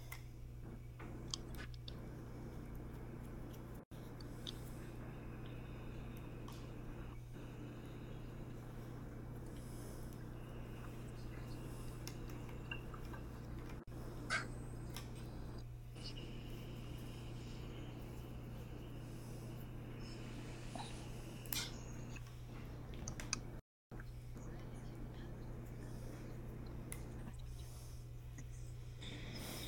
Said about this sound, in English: I'm trying not to scratch my Bose frames while cutting the stupid zip tie.